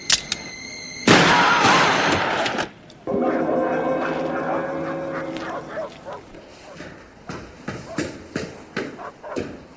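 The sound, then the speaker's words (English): A sudden loud, harsh blast of gunfire bursts out and rings for over a second, followed by lower rumbling and a series of sharp, scattered cracks fading in and out. “We heard shots.”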